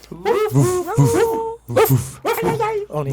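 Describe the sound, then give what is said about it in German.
Several people say goodbye by imitating dogs with their voices, loud yips, whimpers and woofs in quick overlapping bursts, with a few brief pauses between them. “Und ehrlich gesagt, finde ich, sollten wir jetzt es unserem Gast gleich tun und nur mit Hundegeräuschen Tschüss sagen.”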